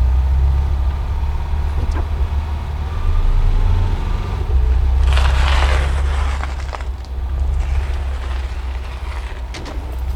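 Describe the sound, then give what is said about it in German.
A car, driven by the village pastor carrying passengers from the train station to a house, drives along with a steady low engine rumble filling the whole stretch, plus a burst of rougher crunching, gravelly noise midway as the tires roll over uneven ground. “Doch glücklicherweise trafen sie den Pastor des Dorfes, der sich erbarmte und sie mit dem Auto bis zum Felsenhaus fuhr.”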